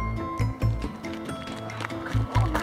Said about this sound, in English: Marion's running to a car.